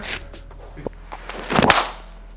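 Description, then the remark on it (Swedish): A single golf driver swing, a quick airy whoosh peaking into a sharp strike on the ball, preceded by a faint click and some quiet outdoor background. “Känns det bra också att svinga den här klubban? Mycket bra, tycker jag. Bra träff.”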